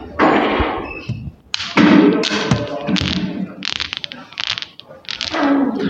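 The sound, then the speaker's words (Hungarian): Metal balls of a seven-ball Newton's cradle clack against each other in quick bursts of sharp ticks, moderately loud, with brief pauses between runs of knocking. “Golyók kedvesen kopognak, nem engedünk be senkit.”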